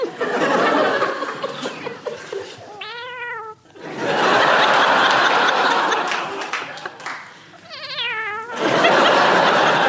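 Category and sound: vocal imitation, person imitating a cat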